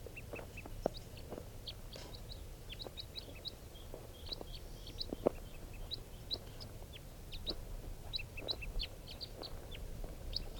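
A flock of birds calls around a net where one male has just been caught, with many short, high chirps and clucks overlapping at an irregular pace over a steady low rumble. No one speaks.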